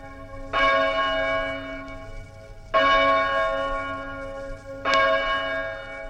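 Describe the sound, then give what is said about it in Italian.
A church bell near a town hall, one that rang every 15 minutes, rings out in three loud, resonant strikes a couple of seconds apart, each tone lingering and overlapping the next with a rich, humming decay. No voices are heard. “Questo suono di una campana che toccava ogni 15 minuti vicino all'aiuntamento dove io lavoravo erano davvero qualcosa di toccante che mi è rimasto nel cuore”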